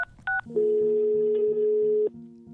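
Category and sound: signal or alarm, telephone call ringing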